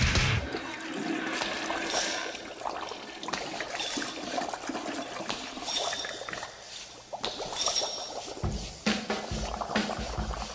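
A toilet flushes with a continuous rushing, gurgling wash of water that holds steady for about ten seconds, with bursts of splashing and swirling and no voices over it.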